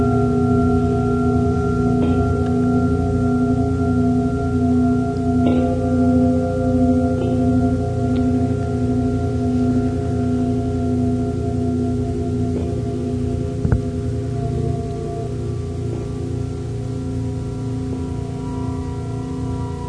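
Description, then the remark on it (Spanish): A slow, bell-like chiming melody from a piece of music said to last a thousand years, long, sustained tones that hum and ring over one another at a steady, fairly loud level, with a few faint clicks and no voices. “Parecen campanadas.”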